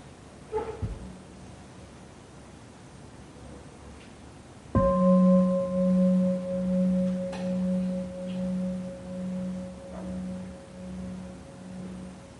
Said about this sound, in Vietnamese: Con xin đại chúng khi nghe tiếng chuông trở về với hơi thở của mình, như là lời gọi của Bụt gọi mình về, trở lại với tâm, kéo tâm về với thân của mình và lắng nghe tiếng chuông, và chỉ lắng nghe tiếng chuông thôi, không suy nghĩ một gì khác.